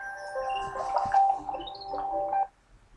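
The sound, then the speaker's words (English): A phone alarm, left set as a reminder to put a turkey in the oven, plays a bright, melodic electronic tune at moderate volume for a couple of seconds, then cuts off abruptly, leaving near silence. “Oh, I've got an alarm going off.”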